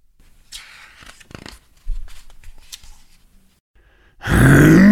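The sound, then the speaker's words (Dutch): After a stretch of quiet rustling and crinkling, a sudden loud tiger roar bursts in as a tiger leaps out of a bush, filling the final second, deep and rough. “Brullen tegen, springen een tiger uit de struik.”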